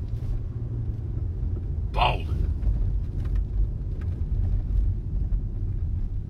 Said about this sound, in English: Now that truck is fucking moved out of the way. And now I'm just driving down the fucking wrong way, a one-way street.